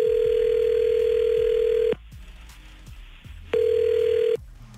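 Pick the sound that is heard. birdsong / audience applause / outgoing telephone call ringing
outgoing telephone call ringing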